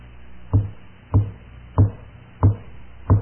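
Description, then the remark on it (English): Five firm knocks on a wooden door, evenly spaced in a slow, steady rhythm, each a dull thud with no voices around them. “There's a knock at the door.”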